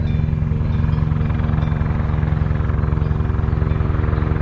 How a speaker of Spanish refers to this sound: Bueno, esto evidentemente es un helicóptero y lo que suena de fondo es un cencerro. Así que así, hilando un poquito, sin ser un genio, pues me imagino que o una cabra o no sé, o una oveja o una vaca, ¿no?